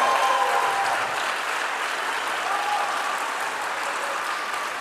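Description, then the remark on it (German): Steady audience applause, a dense wash of clapping hands that holds at an even, fairly loud level for about five seconds without any voices over it. “Jetzt euer Applaus”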